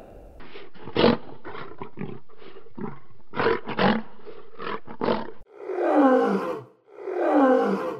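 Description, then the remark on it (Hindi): A lion lets out a run of short, gruff grunts and growls, then two long, loud, rumbling roars that swell and fade one after the other. “शेर खुशी से जोर जोर से बोल रहा था,”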